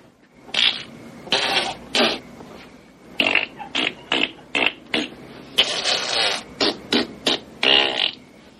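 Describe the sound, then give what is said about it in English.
A boy telling a joke about a monkey imitates farting with his mouth, blowing about a dozen wet, sputtering raspberries in quick, uneven succession, fairly loud, with no talking in between. “Then he started farting.”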